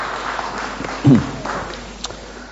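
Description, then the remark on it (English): An audience at a Bible talk gives a round of applause, clapping in a steady, crackly patter lasting a couple of seconds, with one thumping bump partway through, and no voices standing out above it. “Girls, if you'd like to give them a round of applause.”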